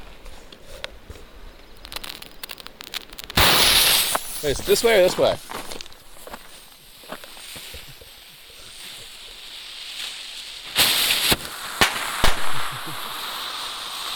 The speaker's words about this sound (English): Black cap banger candles. Explosion with report.